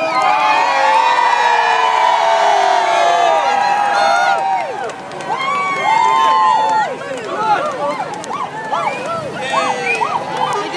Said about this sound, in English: And thousands of people are lining the streets here at Wood Green, shouting her name, taking photographs.